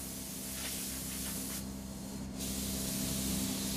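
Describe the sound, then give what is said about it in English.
A spray gun hisses steadily over a constant low mechanical hum as paint is sprayed on guitar bodies at the Fender plant in Corona, California, cutting out briefly midway before the hissing spray resumes. No one speaks. “Today, coats of many colors are spray-painted on 250 to 300 guitars every day at the Fender plant in Corona, California.”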